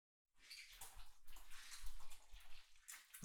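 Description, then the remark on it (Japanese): Running water splashes and rushes steadily as shampoo foam is rinsed off hair, a continuous wet pour with shifting spatters. No one speaks. “泡を流します。”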